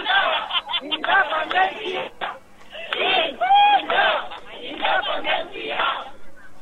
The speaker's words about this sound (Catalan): Els crits que sentim a la plaça ara mateix són bastant explícits, suposo que ho sentiu.